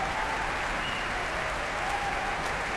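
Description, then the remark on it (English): A steady wash of dense clapping-like tapping: an orchestra at a Proms concert stays seated, tapping feet on the ground and bows on music stands, mostly the string section, to salute conductor Matthias Bammert as he comes on stage. Continuous and fairly loud with no voices, a faint tone drifting through it. “tapping their feet on the ground and their bows, certainly the string section on their stands, in appreciation of tonight's conductor”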